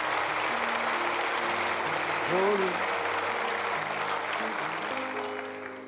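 A church audience applauds in a dense, steady wash of clapping, with sustained low instrumental tones underneath and a brief vocal whoop midway before the applause begins to taper off.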